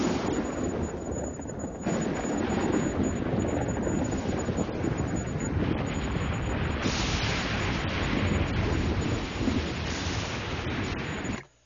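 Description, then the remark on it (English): A heavy thunderstorm roars steadily, with deep rumbling thunder and dense rain hissing throughout, gusty wind buffeting, before cutting off abruptly at the end. “A monstrous storm broke loose, which forced us to flee and to seek the negotiation ship, a type of primitive submarine, which we finally reached drenched to the skin.”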